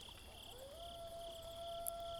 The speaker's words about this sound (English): This is nice. The moonlight, the quiet, the crickets.